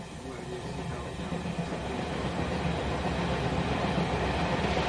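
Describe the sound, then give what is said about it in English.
The delayed 7 o'clock train from Bristol Temple Meads rumbles steadily alongside Platform 6, its broad mechanical roar growing slightly louder over several seconds as it draws in, with no clear voices over the noise. “The next arrival at Platform 6... It's a 7 o'clock train from Bristol Temple Meads.”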